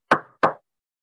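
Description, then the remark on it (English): Two firm knocks on a door, spaced about a third of a second apart, each sharp with a brief hollow ring, then silence. No one speaks. “Imagine, Christ is at the door and knocking.”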